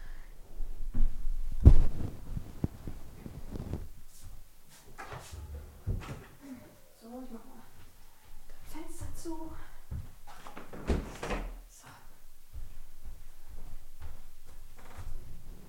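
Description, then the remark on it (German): Bumps and clunks of a door that the wind blew open being handled and pushed shut, with a sharp thud early on, then scattered knocks, shuffling movement and faint murmuring. “Oh, meine Tür ist aufgegangen durch den Wind. Also Moment, ich muss das hier mal kurz ändern.”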